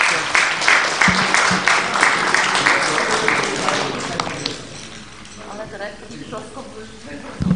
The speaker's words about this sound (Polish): Panom jeszcze raz dziękuję i gratuluję Wam tej świetnej kondycji, z jaką odchodzicie na emeryturę. Zapraszamy do Urzędu Miasta i chcę wierzyć, że będziemy jeszcze nie raz się spotykali. Dziękuję bardzo, duże brawa.